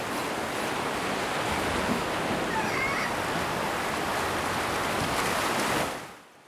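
A loud, continuous roar of ocean surf, a dense hissing wash of breaking waves that holds steady for about six seconds and then quickly fades out. No voices are heard.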